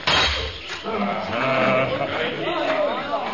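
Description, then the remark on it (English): A panther's scream: a loud, drawn-out yowl with a harsh, bleating edge, its pitch wavering as it holds for about three seconds. “The panther's about to scream!”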